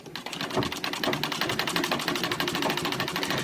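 A sewing machine runs steadily at high speed, its needle mechanism producing a rapid, even rattle of clicks. The sound is fairly loud, with no voices.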